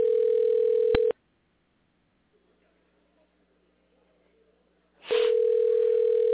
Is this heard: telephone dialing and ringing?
yes